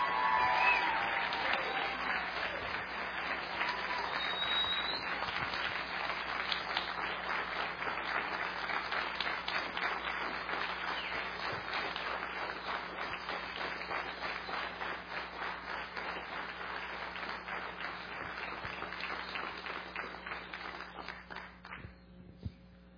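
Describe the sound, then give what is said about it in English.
A large audience applauds a choir steadily for over twenty seconds, a dense, even wash of many hands clapping at once that slowly thins and fades out at the end. “Let's give this choir a great big round of applause.”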